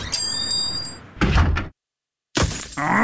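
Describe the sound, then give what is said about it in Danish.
A stone chip smacks into a car windscreen with a sharp, loud crack and a couple of quick follow-up knocks, then a short silence before a rush of noise returns. “Et sten i slag!”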